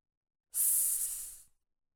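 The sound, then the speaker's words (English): A single sustained hissing "sss" made by a human voice giving the sound of the letter S, as in snake, sun and seven, bright and airy, lasting about a second and fading slightly at the end, heard alone in a quiet space. “I start words like snake, sun, and seven.”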